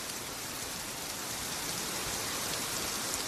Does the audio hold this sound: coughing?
no